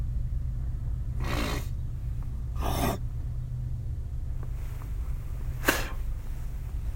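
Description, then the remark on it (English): A train rolling past with a constant low, heavy rumble, broken by a few loud rushing whooshes that swell and fade. No one speaks. “I'm trying to talk about other stuff instead of getting mad about this train, but.”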